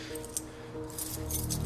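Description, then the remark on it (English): A bunch of keys jangles in a few short, bright metallic bursts over a steady low background hum with no talking. “Give me your keys.”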